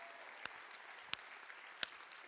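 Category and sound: crowd, round of applause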